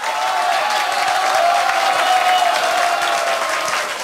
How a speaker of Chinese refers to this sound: 同意这个观点的请热烈掌声鼓励通过，我看一下。